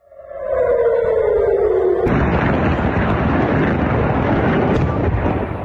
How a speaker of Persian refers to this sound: به دنبال ادامه حملات موشکی از سمت غزه به اسرائیل، ظهر روز دوشنبه صدای آژیر در مناطق مختلفی از شهر تل آویو به گوش رسید و ویدیوهایی در شبکه اجتماعی از انفجار دست کم یک موشک در اطراف فرودگاه بن گوریون این شهر منتشر شد.